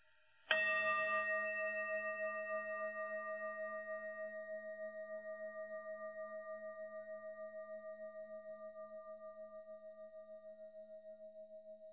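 A single gong strike rings out clearly, then its bright, shimmering tone hangs in the air, slowly fading with a gentle pulsing wobble for many seconds. No voices are heard.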